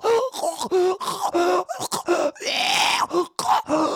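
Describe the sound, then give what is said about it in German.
A man groans and gurgles in short, strained bursts as a small girl bites into his neck, followed by a longer raspy, choking breath and further pained moans, loud and alone without any speech. “Er röchelt. Er röchelt. Er schreit.”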